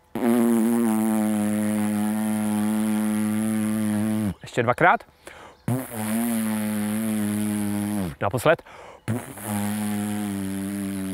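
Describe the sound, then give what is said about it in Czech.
A voice imitates a bumblebee with deep, sustained lip buzzing, lips pushed forward, as a lip exercise for trumpet and didgeridoo playing. Three long droning buzzes, each several seconds long, are separated by brief spoken words. “A teď zkuste čmeláka, takže víc dáte pusinku dopředu. A hlubší tón.”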